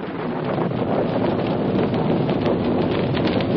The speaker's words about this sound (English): Oh, there's going to be a storm.